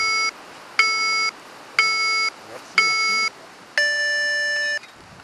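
Electronic beeps signaling the start of an orienteering race: four short, evenly spaced tones followed by one longer, higher-pitched final beep, clear against faint background noise.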